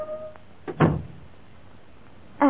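A door swings open with a single dull wooden thud and a short rattle, followed by quiet room tone before a voice begins at the very end.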